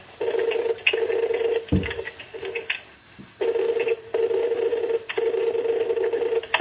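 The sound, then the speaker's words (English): Telephone dialing tones of individual people ringing in beep in several long steady bursts separated by short gaps, loud, with a brief low thump partway through and no one talking. “That is individual people ringing in.”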